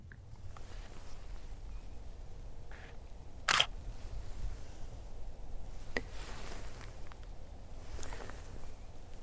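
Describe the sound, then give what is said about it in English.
A crisp camera shutter releases once, loud, over a steady outdoor hush, followed by a fainter click a couple of seconds later and soft rustling in the background. “The sound of my camera shutter releasing.”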